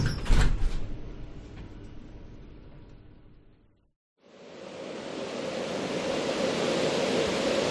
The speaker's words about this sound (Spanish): ¡Ay, que nos pilla la puerta!